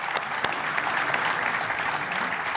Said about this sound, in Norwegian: Med enda lengre applaus, for det tar litt tid å komme seg opp.